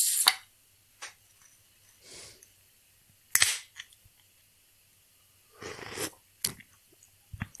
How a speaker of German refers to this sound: Und jetzt, wie gesagt, habe ich mir einfach, das war ganz einfach, habe mir das IPA ausgesucht von Sudden Death, was ich im Kühlschrank habe, was die wenigsten Prozente hat mit 7,0. Deshalb, ich mache jetzt mal diese wunderbare Dose auf.